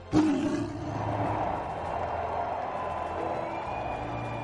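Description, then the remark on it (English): A stadium crowd roars steadily and loudly for Bengals legends, a dense wash of cheering that holds throughout, kicked off by a sudden, sharp growling blast at the very start. “Ladies and gentlemen, let's hear one more roar in the jungle for our Bengals legends.”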